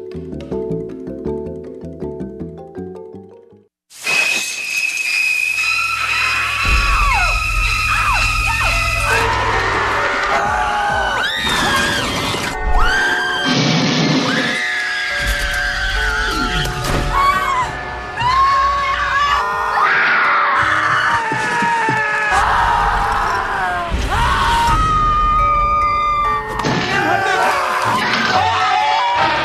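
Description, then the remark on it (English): A rapid montage of loud, piercing screams from different voices, taken from a number of different horror films, one shriek cutting into the next with musical stings and dramatic film sound underneath, after a brief quiet opening. “That's a compilation of screams from a number of different horror films.”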